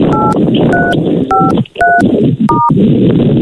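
A phone number left in a text message being dialed: five short dual-pitched keypad beeps at a steady pace, each a clear electronic tone, sounding over constant rushing background noise.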